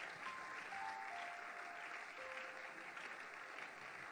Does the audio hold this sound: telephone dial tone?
no